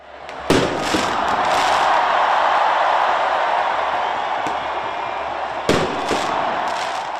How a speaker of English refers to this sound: Hundreds of people celebrated in central Paris after exit polls projected the far right has failed to win a majority in France's parliamentary elections. The crowd in Place de la République was seen cheering, waving flags, and lighting fireworks.